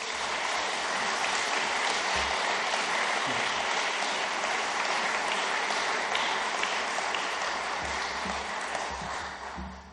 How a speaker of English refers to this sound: So a round of applause for David.